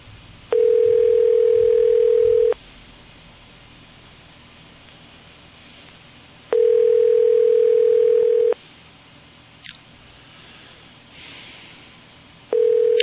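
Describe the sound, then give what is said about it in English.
A telephone ringback tone purrs while a call connects: two-second steady buzzes separated by longer silences, two full rings and a third just starting, over faint line hiss with no one speaking. “A little ringing there.”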